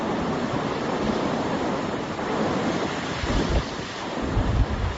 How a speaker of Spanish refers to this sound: Es el rugir del embalse que está al 85% de su capacidad. Las imágenes son impactantes. El agua como si fueran las olas del mar saltando por encima de la presa.